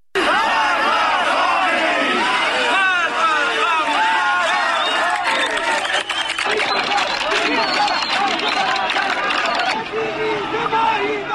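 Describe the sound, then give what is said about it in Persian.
A large protest crowd in Zahedan chants slogans, many voices shouting together loudly and without pause for about eleven seconds, the raised voices overlapping into a dense, roaring mass. “یک صدایی از زاهدان رو داریم، این رو با هم بشنویم بعد من ادامه میدم.”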